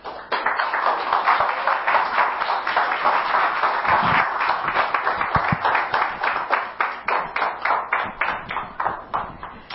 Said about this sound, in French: Mais je ne vais pas en dire plus, je vais inviter l'équipe à venir devant et on peut les applaudir.